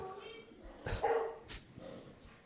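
A dog barks twice in quick, sharp bursts with a brief whiny tone between them, fairly close, over a low murmur of background noise.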